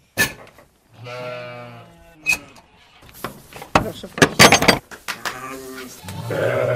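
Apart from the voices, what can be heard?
sheep bleating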